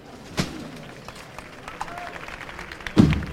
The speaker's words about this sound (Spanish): Y ahí está. Nueva chicotada, nuevo aplauso aquí en la Macarena. Hay gente en las azoteas de los edificios de esa calle que lleva el nombre de la Virgen, Macarena, justo detrás de la muralla.